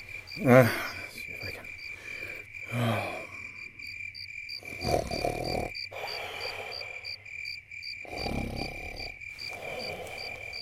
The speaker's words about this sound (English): That's probably just the crickets.